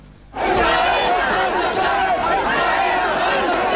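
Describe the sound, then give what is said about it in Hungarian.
A crowd of several thousand protesters roars and chants anti-war slogans together in sustained, dense voices, starting abruptly after a brief quiet moment and staying loud throughout, at a street rally in the heart of Paris near the Eiffel Tower. “Libanoni zászlókat lengetett, háború ellenes jelszavakat skandált és plakátokat cipelt a több ezer fős tömeg Párizs szívében, nem messze az Eiffel-toronytól.”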